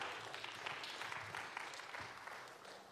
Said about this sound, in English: Can you give Dia a round of applause? Yeah, thank you.